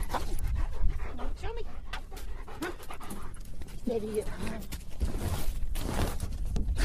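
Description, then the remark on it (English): A German Shepherd search and rescue dog pants rapidly and steadily during routine training on a sunny morning at Bringle Lake Park in Texarkana, its breaths forming a continuous rhythmic huffing, with a brief muffled human voice partway through and outdoor background noise. “It only takes the German Shepherd a few minutes to nose his way to the material and scratch the ground nearby”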